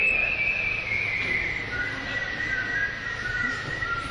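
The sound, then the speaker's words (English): A sustained, wavering whistle glides slowly between high pitches for about four seconds, fairly loud and clear over a soft, noisy background hum, with no talking. “I like the whistling.”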